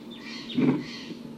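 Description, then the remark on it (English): Faint, thin calls of wild birds near decoys, calling less now, with a short downward-sweeping note early on, over a low rumble that swells briefly into a soft thud midway. No one speaks. “There are wild birds here. Calling less now.”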